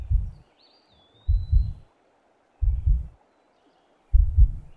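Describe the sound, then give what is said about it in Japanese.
Muffled heartbeat thumps heard with an ear pressed against a chest: four deep low pulses spaced about every 1.3 seconds, loud and booming, with a faint high whistle briefly above. “僕の心臓の音、聞こえる？”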